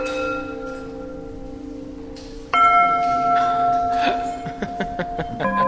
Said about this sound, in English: So here I am standing inside of the structure, and I'm holding a mallet in my hand. And the aluminum bells can be struck just like this.